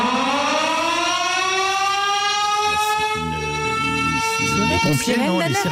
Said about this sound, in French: La sirène d'alerte qui retentit partout en France, chaque premier mercredi du mois à midi.